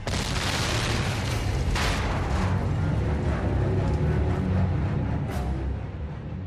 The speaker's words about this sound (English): Suddenly, a huge airship exploded. It came down crashing near me. Red Martians were falling from the side of the huge ship, and then it exploded again.